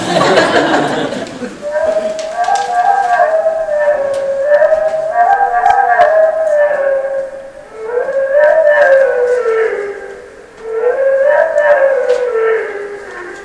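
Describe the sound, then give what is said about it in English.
A wood thrush song slowed way down: loud, continuous, low warbling tones with rich overtones that waver and glide up and down through several phrases, with brief dips between them, almost like a howl. “Now we're going to slow it way down to the level at which the detail that the wood thrush can hear it.”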